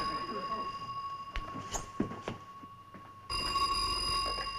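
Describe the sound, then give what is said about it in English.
A telephone bell rings with a steady electronic trill, its sustained tones cutting off and then resuming, while people talk briefly in the background between the rings. “answer the phone.”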